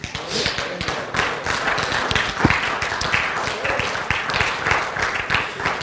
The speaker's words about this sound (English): Let's thank the Lord. You can clap.